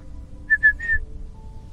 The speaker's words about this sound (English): My ex at the time dared me to whistle while we walked through the cemetery, so I whistled. And out of nowhere, something whistled back at us.